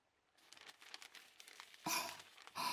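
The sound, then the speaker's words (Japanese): Aluminum foil crinkles and rustles steadily as it is wrapped around a wet sweet potato in wet newspaper for roasting, with two louder, sharper crumpling bursts near the end. The sound is fairly quiet, with no voices. “この後アルミホイルで巻くんです。”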